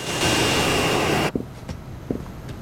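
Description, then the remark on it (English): A jet pulls up on a runway: a loud, steady jet engine roar with a high whine cuts off abruptly after about a second into quiet with a few soft thuds. “The jet pulls up on a runway.”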